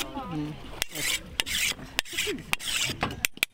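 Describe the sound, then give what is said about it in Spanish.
A machete being sharpened: repeated harsh, rasping strokes of metal scraping metal, broken by sharp clicks, with a faint voice murmuring at the start. “Seguimos en la repartición del agua y también en la afilada del machete.”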